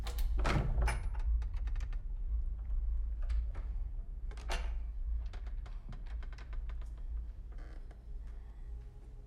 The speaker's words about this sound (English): She goes to the bedroom door and opens it slowly.